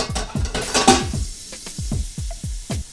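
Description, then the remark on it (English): Water runs steadily into a bowl, filled for a float test, with a broad hiss, while rhythmic gurgling bloops drop in pitch over and over as it fills. No one speaks. “But let's do a water test. So fill up a bowl full of water.”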